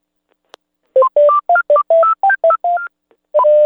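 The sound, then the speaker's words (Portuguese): A brisk run of touch-tone telephone dialing beeps, about nine short two-note tones in quick succession after a faint click, ending with a longer held tone. Loud and close, with no talking. “Agora, liga lá. Liga lá.”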